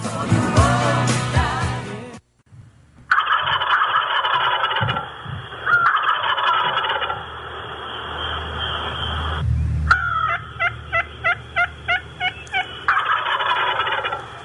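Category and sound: bird, wild turkeys gobbling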